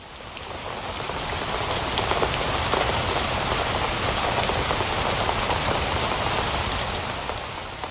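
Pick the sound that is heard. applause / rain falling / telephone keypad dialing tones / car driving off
rain falling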